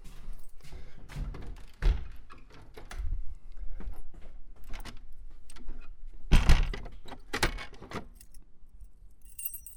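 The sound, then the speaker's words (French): A small balcony door is handled and shut, with metallic jingling and rattling from a latch or keys and a couple of solid thuds, no voices. “Après, on va fermer la petite porte.”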